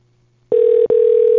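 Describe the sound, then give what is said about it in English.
A phone line ringing on a call: a steady, loud electronic tone heard through the receiver starts after a moment of near-silence, briefly cuts out, then continues. “Oh, listen to that phone ring.”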